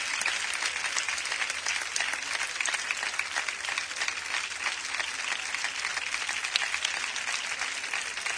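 Steady, dense applause from a crowd giving an ovation to three bullfighters, many hands clapping at once in a continuous crackling wash that holds an even loudness throughout, with no voices standing out.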